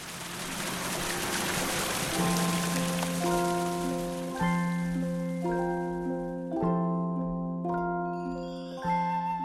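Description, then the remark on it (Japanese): Water spouting from a jar fountain at Semiwon splashes steadily into large jars 30 cm to 1 m across and of differing depths, a rain-like patter beneath resonant, bell-like tones that swell in roughly every two seconds and linger, almost musical. “亀の大きさは直径30センチから1メートルまでとまちまちで、亀の深さが違うため吹き出した水が落ちるときに聞こえる音が雨のようにも、亀が奏でる音楽のようにも聞こえます。”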